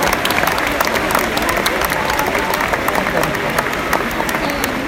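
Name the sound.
audience applause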